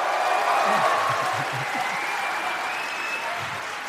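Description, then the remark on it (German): Sustained audience applause as a performer is introduced on stage, a dense wash of steady clapping that stays loud throughout, with a faint bit of crowd noise mixed underneath. “Applaus!”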